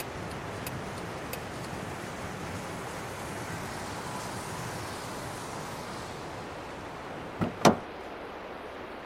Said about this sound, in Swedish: Lyftaren tog sig snabbt in i bilen och satte sig i baksätet. Han stängde dörren snabbt.